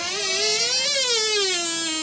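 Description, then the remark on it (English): A heavy vault door creaks open in one long, steady groan, its pitch rising slightly and then sinking again over about two seconds, with no voices. “Yeah, it's the door to your vault, isn't it?”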